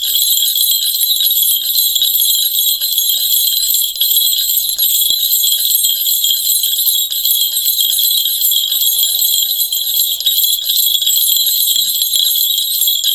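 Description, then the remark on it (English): A steady, bright shimmer of many small bells rings continuously, high-pitched and loud, with no pauses or talking throughout. “And as a beam of light, and as a center of will and generative imagination, you are drawn to the sound of the bells.”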